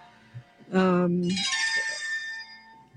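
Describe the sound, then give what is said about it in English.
Spooky Halloween sound effects: a loud, low, buzzy moan lasting about half a second, followed immediately by a high, bright, wavering shriek that fades over the next second. “Just some Halloween sound effects.”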